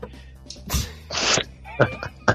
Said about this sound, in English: This sneeze right in my face.